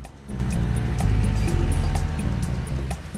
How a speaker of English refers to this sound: He rides off on his moped, trundling over cobbled streets.